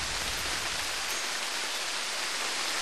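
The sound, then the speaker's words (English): Heavy rain pours down onto an overhang as a steady, teeming downpour, an unbroken hiss that is dense and constant throughout with no pauses or other sounds. “In less than 10 minutes, it had turned to a steady, teeming downpour.”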